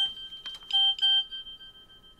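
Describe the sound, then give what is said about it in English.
A phone left switched on while plugged in and charging gives off a few quick clicks, then two short, bright electronic beeps, followed by a thin, steady high tone that slowly fades. There is no talking. “I should have remembered not to leave the phone on this week.”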